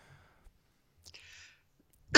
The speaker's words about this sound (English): I've got a bit of a cough. Sorry.